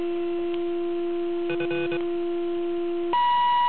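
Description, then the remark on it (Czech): A steady low-pitched beat tone from a radio transceiver, heard once a signal generator is switched on while tuning to a station, hums alone, joined briefly by a cluster of warbling tones, then abruptly switches to a higher-pitched steady tone over hiss. “Jo, pokud by bylo vše v pořádku a byl jsem naladěný, tak ten druhý tón musí být v nulovým záznění.”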